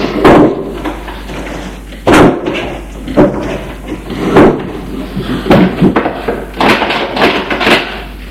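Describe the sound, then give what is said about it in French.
A wooden desk drawer that locks with a key slides and bangs shut after a notebook is put away in it, followed by a string of sharp clunks and rattles as it is fiddled with and locked, with no talking. “Une heure plus tard, il range le cahier dans le tiroir du bureau qui ferme à clé.”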